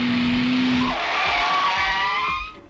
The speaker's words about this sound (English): And the Tupper Car is tough. Let's run this Tupper Car into a brick wall at 55 miles an hour.